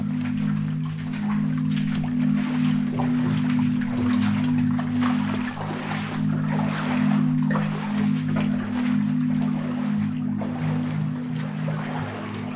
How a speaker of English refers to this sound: So we're wading right into the heart of the quarry now. I guess that the water's not quite welly height, just underneath. It's pretty clear, but we're stirring up this silt. And I had to duck down at first, but I can stand up now.